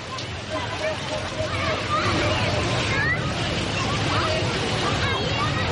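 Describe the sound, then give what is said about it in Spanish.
A steady roar of breaking ocean waves fills the scene, with children's high voices calling and chattering over the wash as they play. “Es el ambiente fantástico, los niños jugando, lo que escuchan de fondo son las olas.”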